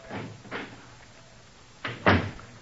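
door opening

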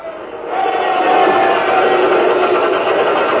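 ship pumps starting up

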